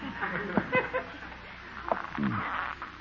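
Wooden floorboards creak underfoot in a few separate groans and squeaks, including a longer low, wavering creak near the end, over a faint background hiss.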